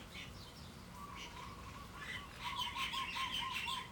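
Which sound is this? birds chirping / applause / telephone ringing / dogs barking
birds chirping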